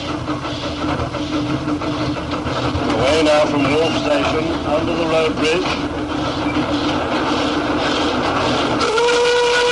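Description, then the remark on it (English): A steam locomotive on the Talithlin Railway chuffs and rumbles steadily, loud, setting out on the last little run of the day towards Dolgoch; near the end driver Di Jones sounds its whistle, a sustained, piercing tone over the churning noise of the engine. “Now, driver Di Jones. He gives his whistle.”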